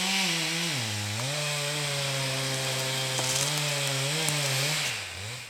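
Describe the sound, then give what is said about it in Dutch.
A chainsaw drones steadily as it cuts through wood, its engine pitch dipping and rising under load. The sound is loud, and no one speaks. “Kijk, dat doet de zaag ook nog even uit. Dan kan je het nog beter horen.”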